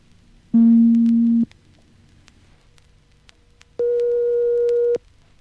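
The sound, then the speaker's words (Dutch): Two steady, loud electronic tones from a sine-wave generator: a low hum-like pitch held for about a second, a pause, then a higher pure tone held slightly longer. No voices. “Dat was de sinusgenerator.”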